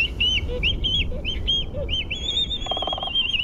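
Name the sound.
black-footed albatross calls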